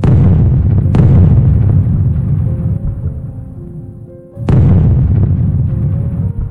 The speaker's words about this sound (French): Nous étions sur des bateaux en route pour la Normandie et la plage de Sport. Les batteries allemandes situées sur la plage et au-dessus nous envoyaient leurs obus, ce qui tua plusieurs de nos soldats.